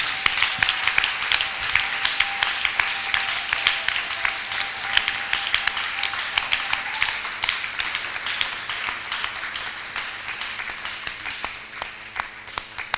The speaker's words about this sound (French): Let's give God again a clap. Offrons encore à Dieu une slave d'acclamation.